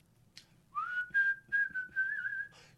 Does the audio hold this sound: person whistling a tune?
yes